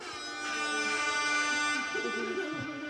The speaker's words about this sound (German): dann kann ich zum Beispiel schnell eine Sirene abfeuern. Oder eine Tröte.